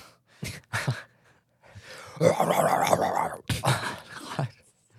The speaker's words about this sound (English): The hell is that? Chihuahuas.